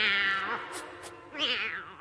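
Two loud cat meows in quick succession, the first drawn out and wavering, the second rising then falling, with no talking.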